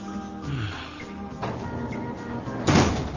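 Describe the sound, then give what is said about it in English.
A door is pushed shut with a solid thud near the end, following a softer bump earlier, over a steady low room hum with no speech. “It's drafty with the door open.”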